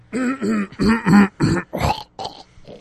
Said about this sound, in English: I like how you say excuse me away from the mic, but then you clear your throat right into it.